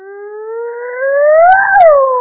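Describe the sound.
A single voice imitates a siren wail, a sustained tone climbing slowly in pitch to a peak and then sliding back down. Loud and alone, lasting about two seconds.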